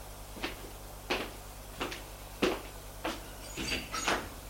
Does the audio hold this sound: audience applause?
no